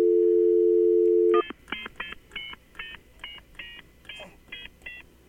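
A steady low phone dial tone hums for over a second, then cuts off as a quick run of about ten short two-pitch keypad beeps dials a number in an uneven rhythm, placing a call on a newly installed phone system.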